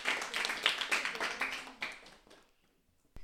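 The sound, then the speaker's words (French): An audience applauds the contestants of a school quiz game, the jeu des 1000 points, with a dense, crackling burst of clapping that tapers off after about two seconds, leaving near silence broken by a single sharp click at the end. “On applaudit bien fort.”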